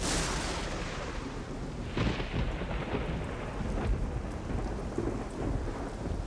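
A supercell thunderstorm rages over the south and centre of the United States in late April, with steady, heavy rain hissing throughout while deep thunder rumbles and cracks, with a sharp, loud crash about two seconds in followed by continued rolling booms.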